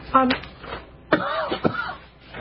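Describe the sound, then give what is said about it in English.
A few short, harsh coughs, spaced irregularly, with some throaty, voiced sounds between the bursts. “Yeah, I talk a lot before the show and after, and right now, because I can't hit my cough button, I'm trying to talk fast to get all this information out.”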